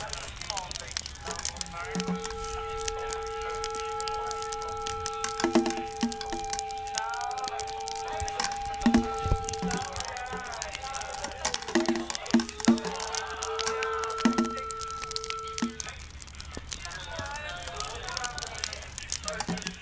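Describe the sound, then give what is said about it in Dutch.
Continuous crinkly rustling of a plastic bag covering a recording device to keep it dry, a dense crackle of irregular scrapes and crinkles throughout, with a steady high tone humming underneath for much of the time. “Hij ritselt nu wel de hele tijd.”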